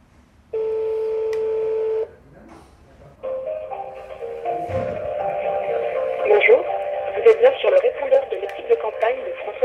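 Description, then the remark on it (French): A steady electronic telephone dialing tone sounds for about a second and a half as a modem is called, then after a short pause a crackly, narrow phone-line sound takes over with warbling, shifting tones. “Et tu veux pas appeler le modem quand même ? Allez, on essaye si tu l'as.”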